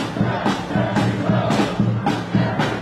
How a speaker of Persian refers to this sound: اینها طرفداران بایدن در نیویورکند. فریاد می‌زنند تک تک آرا مهمند و تمامشان باید شمرده شوند.